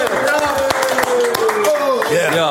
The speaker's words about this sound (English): Clap your fucking hands. One, two, three.